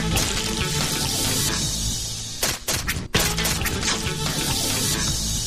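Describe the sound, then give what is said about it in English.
Water runs and splashes steadily while a cheese tank is cleaned during cheese making, a dense continuous rush broken midway by a few sharp knocks and sloshes, then flowing on. No one speaks. “began making cheese by cleaning the tank and pouring the milk.”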